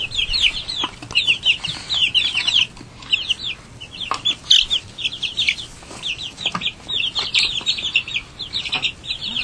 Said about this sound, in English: You stinky chickens. You stinky chickens.